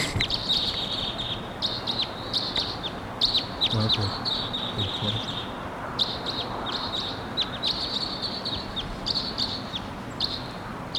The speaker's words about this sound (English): Wild Cross Bill coming in at 7:03.